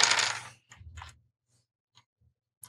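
Dice rattle and clatter onto a hard surface in a loud burst, followed by a second tumble and a few faint, scattered clicks as they settle. No one speaks.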